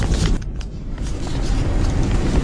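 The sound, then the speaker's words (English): Inside a 767 airliner cabin during a belly landing, recorded on a passenger's phone, a loud, steady roar of scraping and heavy low vibration rumbles continuously with a rough hiss on top and no voices. “And remarkably, even when you listen to this pretty loud, the volume loud, I hear a little bit of scraping and vibration here, but, you know, not as much as you'd expect for a 767 landing without its landing.”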